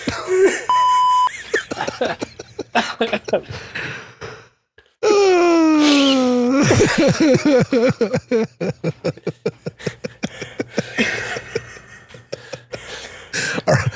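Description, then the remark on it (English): A short, steady electronic bleep, like a censor tone, sounds once near the start over busy background noise. It is followed by a long groaning, sighing vocal sound and choppy chatter. “I don't want to beep it.”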